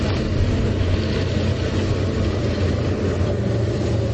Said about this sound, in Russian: Шум мотора КамАЗа теперь единственный звук, который можно услышать на побережье Оки близ села Константиново.